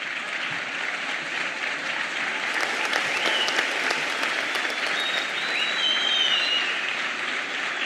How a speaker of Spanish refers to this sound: Les pido al Centro de Estudiantes, presidente, vicepresidente y secretaria, que vengan acá y que me acompañen también en el escenario, por favor, y que les den un aplauso a ellos.